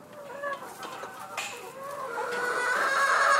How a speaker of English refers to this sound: And inside the chicken house, the light slants through the low windows and about 60 hens scratch in the fresh straw. These chickens are pullets. Young ladies just starting to lay eggs.